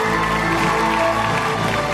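An audience applauds steadily, a dense, unbroken wash of clapping that holds at an even, fairly loud level for the whole two seconds, with a low tonal hum running underneath.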